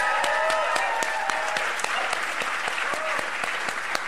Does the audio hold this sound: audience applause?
yes